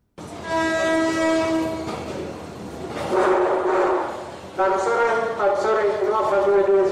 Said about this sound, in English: It's 12 midnight at Harare train station, and the railway announcer finally announces the train set to take passengers that have been waiting for it for hours without any explanation.